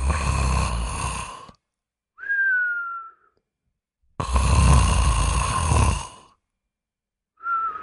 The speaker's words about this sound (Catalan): Va sortir a la casa, es va tombar al jardí i va caure profundament adormit. El fort so dels roncs va cridar l'atenció d'un caçador que hi passava.